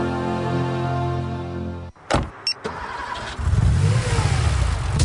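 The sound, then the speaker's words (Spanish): A car engine hums steadily, a few sharp clicks follow, then the engine revs up and accelerates with a loud rumble that holds to the end. No one speaks. “Todo va perfecto, porque tu auto está protegido.”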